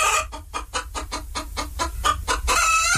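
A hen clucks in a quick, steady run of about ten sharp clucks, then breaks into a longer, raspy squawk. It's fairly loud, with no voices.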